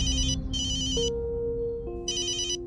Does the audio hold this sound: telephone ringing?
yes